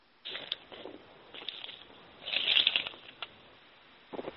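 Footsteps of a person walking, heard as scattered crunching and rustling bursts at an uneven pace, louder in the middle, with no voices.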